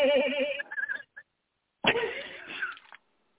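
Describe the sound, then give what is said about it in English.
A hyena sound effect: two loud bursts of warbling, cackling yelps separated by a short gap, the pitch wobbling up and down, with no talking over it. “What was that hyena noise? That was the effect.”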